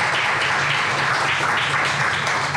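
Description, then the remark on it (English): Steady applause from an audience for the panelists, a dense, even wash of many hands clapping at once, loud and sustained without a break, with no voices over it. “All right, round of applause for our panelists so far.”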